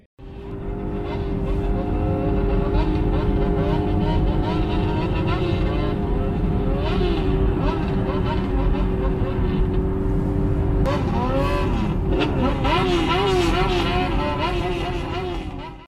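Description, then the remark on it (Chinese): Loud, continuous engine roar from motorcycles, with pitch sweeping up and down as throttles rev, growing more agitated toward the end; the noise stays dominant throughout with no clear talk. “我的日本朋友，我在问他这个问题的时候我问了他说你有没有特别特别讨厌的声音，他说他特别特别讨厌那种就是机车的声音，因为然后他给我发了一段视频，一会儿我们会在这里播放这段音频。”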